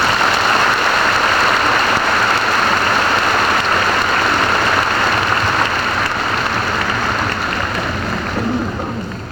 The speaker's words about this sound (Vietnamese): xin quý vị một tràng pháo tay cho ông.